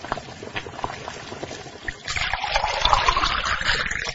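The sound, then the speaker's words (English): After a couple of seconds of faint clicks, boiling water is poured steadily onto noodles, a continuous splashing stream that rises slightly in pitch as the container fills. “When the water is boiling, add the water to the noodles.”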